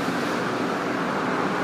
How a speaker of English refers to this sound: the middle of what they call a freeway, but dual carriageway. All that noise is passing cars, not the train system at all.